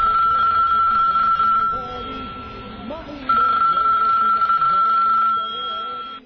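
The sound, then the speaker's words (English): A telephone rings in two long, steady electronic bursts separated by a short pause, fairly loud, over a low murmur of background sound, as Layla phones Ilham. “A concerned Layla decides to phone Ilham about Tahir's strange behavior.”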